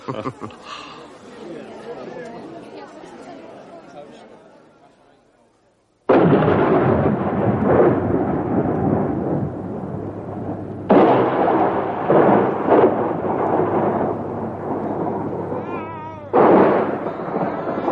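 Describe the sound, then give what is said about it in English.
A thunderstorm rumbles loudly, with a rolling peal of thunder fading out, then a sudden heavy roar of storm noise broken by repeated booming thunder bursts. “He woke the storm.”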